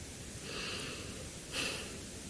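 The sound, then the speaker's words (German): A deep, audible breath, a long airy inhale followed by a shorter, stronger exhale, with no talking. “Da muss ich atmen.”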